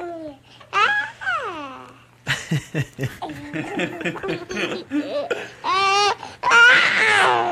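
A newborn baby cries with wavering, high-pitched wails broken by short fussy gurgles and babbling sounds, ending in a louder, strained cry.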